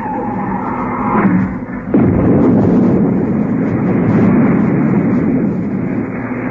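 sound effect, retro rockets firing

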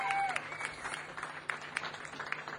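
crowd, audience applause

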